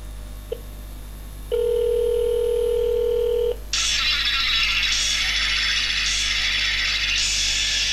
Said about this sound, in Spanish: Ahí está la línea del inalámbrico. Y ahora empezará a dar el tono de llamada.